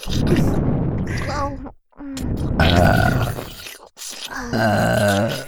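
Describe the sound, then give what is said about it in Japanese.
Several loud, drawn-out burps breathed into the listener's ears: three throaty voiced belches separated by brief pauses, each rumbling and croaking before trailing off. “ゲップの息、お耳にいっぱいかけちゃいますよ。”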